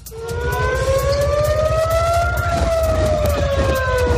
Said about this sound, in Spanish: Y en Israel, esta misma tarde, en la ciudad de Tel Aviv, las sirenas de advertencia han sonado por toda la ciudad.